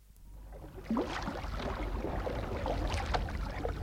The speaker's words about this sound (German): Mit aller Kraft stieß sie das leichte Boot hinaus in den Strom.